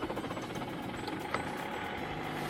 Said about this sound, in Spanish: vamos a ver cómo arranca un Kia Ceed en 42 grados bajo cero. Esto es literal, ¿eh? Ya está. Pues suena, está pasando ya.